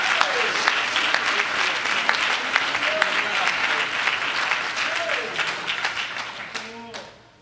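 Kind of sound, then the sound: crowd, audience clapping hands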